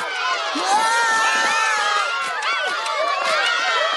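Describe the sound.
A dense waiting crowd cheers and shouts as Milhouse is announced as America's new Fallout Boy, many voices overlapping in a loud, continuous roar with excited whoops rising and falling throughout.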